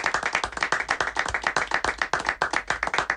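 An audience applauds steadily, a dense crackle of many hands clapping at a quick, even rhythm that holds fairly loud throughout without any talking over it.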